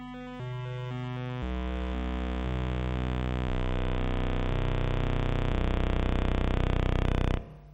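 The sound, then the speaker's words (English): A Sierpinski triangle fractal bit pattern, output by a program as a single monophonic bit stream and mapped to tones, rendered as harsh, buzzy tones that shift abruptly in uneven steps about every second, forming no real melody, then cutting off suddenly after roughly seven seconds. “And at the bottom you see the mapping from the table earlier to actual tones, but I play it again, it doesn't really have notes.”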